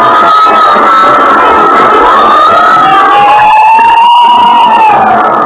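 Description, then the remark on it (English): Fire engine sirens wail loudly and continuously at night, their rising and falling tones overlapping as if more than one truck is sounding at once, with a dense rumble of city noise underneath. “Every time I hear fire engines at night, I think of Harrison Murdoch and the Santilli case.”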